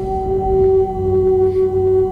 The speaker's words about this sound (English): These songs, this song that you're listening to, is being sung by some whales. Literal whale songs.